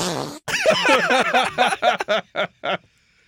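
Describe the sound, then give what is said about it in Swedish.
A voice imitates farting with a run of loud, sputtering bursts that break into shorter separate puffs toward the end, followed by silence. “Vi går vidare till prutt.”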